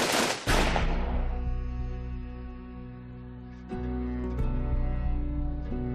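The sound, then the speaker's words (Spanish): Two sharp, loud gunshot-like bangs ring out right at the start, then give way to a sustained, droning musical tone that holds steady with a few soft swells. “Asombrosamente, al quedar libre, se convirtió en abogado, pero su pasado pesaba demasiado y fue abatido a tiros por un agente de la ley en Texas.”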